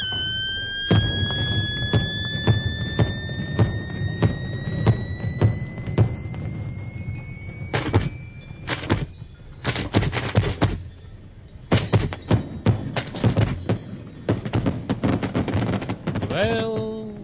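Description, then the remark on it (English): Fireworks go off in a dense, irregular barrage of sharp bangs and crackles, with long whistling rockets rising in pitch overhead, fairly loud and continuous throughout. “Fireworks are over. Only the smoke remains, clouding my great crystal balls.”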